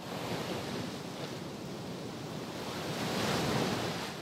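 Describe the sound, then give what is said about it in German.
Heavy ocean surf of high, powerful, foaming waves roars steadily on a beach on the Caribbean coast of northern Colombia, a dense wash of breaking waves that swells louder toward the end, with no voices present. “Noch nie habe ich so hohe, wuchtige und schäumende Wellen wie hier gesehen.”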